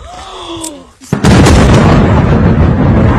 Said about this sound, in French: Certains comptes pro-ukrainiens ont par exemple diffusé une vidéo censée montrer la destruction d'une usine de composants de missiles près de Moscou. On y voit bien une vaste explosion.